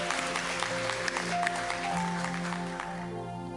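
An audience claps its hands in a steady, dense wash of applause that carries on for several seconds, with sustained musical tones humming underneath and no one speaking.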